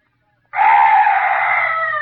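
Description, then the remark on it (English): A strange night bird's call bursts in abruptly as a loud, harsh, wavering shriek and holds for over a second, alone with no voices. “Oh, some night bird. Yes, that's all. Such a weird sound.”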